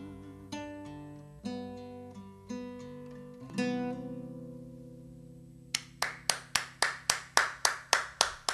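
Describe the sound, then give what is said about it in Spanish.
After a few notes of plucked music ring out and fade, one person claps their hands about ten times in a steady, even rhythm, fairly loud. “Una sola aplaudidora, pero buena.”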